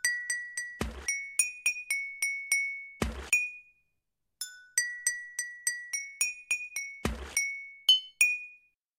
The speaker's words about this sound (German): es gibt eine Wasserorgel. Diesmal werden die Flaschen angeschlagen und ein Lied entsteht.